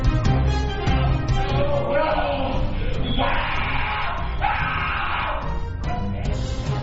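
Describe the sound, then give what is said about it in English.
A student at the Judge Rotenberg Center screams and yells in anguished, drawn-out bursts as he is tied down and shocked, loud, with strained cries rising and falling over a rough, noisy background for several seconds. “Screams of pain from a student at the Judge Rotenberg Center as he's tied down and shocked for hours.”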